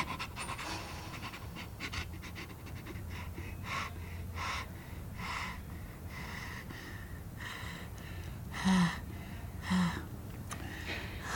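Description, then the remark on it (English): Rapid, rhythmic panting breaths, clear and steady throughout, with a couple of sharper, louder gasps near the end. No one speaks. “But for now, he needed a little break for the shock to wear off and his heart rate abate and his rapid breathing to deepen.”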